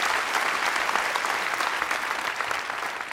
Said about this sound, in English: As an academic scientist in the US, I'm not used to being interrupted by applause.